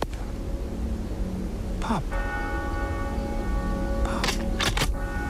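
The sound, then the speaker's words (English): A church bell rings for the Angelus: a heavy strike blooms into a long, humming ring, then a few more strokes arrive close together over a steady background rumble. “Just as we were listening to the Angelus bell ringing out, we heard the first shot”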